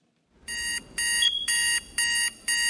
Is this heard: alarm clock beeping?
yes